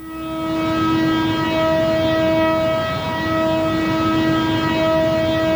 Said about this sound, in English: As dusk fell on Sunday, the siren sounded across Jerusalem to signify the start of Yom Kippur, and Israelis marked the holiest day in the Jewish calendar with a deep sense of foreboding.